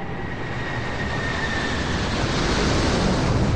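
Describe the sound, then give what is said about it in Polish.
A dense, steady roar of ground-attack aircraft on an air raid over a town, flying low over the rooftops and dropping bombs, fills the whole clip, loud and unbroken, with a thin high whine running through the rumble and no voices. “Jednak nie zdążyła jeszcze nic kupić, jak rozległ się huk samolotów.”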